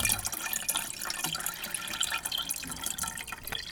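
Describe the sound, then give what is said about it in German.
Water pours steadily into a cup for a few seconds, a continuous splashing trickle with small drips. No one speaks. “Und Frau Gräfin mit mehr Wasser.”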